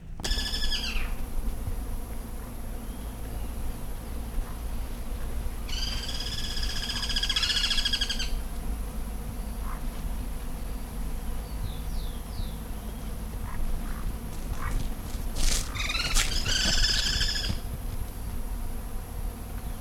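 About six gyr cuckoos call in overlapping bursts from tung trees at the edge of a newly plowed pasture beside a tung orchard. Loud rapid trilling phrases rise and fall in pitch, with scattered softer chirps between the bursts over a steady low background hum.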